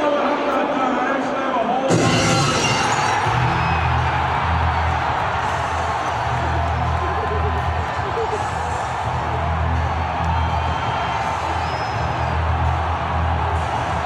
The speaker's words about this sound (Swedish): Vilket jubel, va?